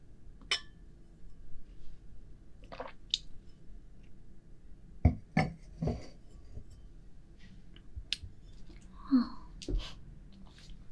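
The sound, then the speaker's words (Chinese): Chess pieces are set out on a board one by one, giving sharp wooden clicks at irregular intervals against a quiet, low background hum. “难得看你把这些棋子摆出来了，想下棋玩？”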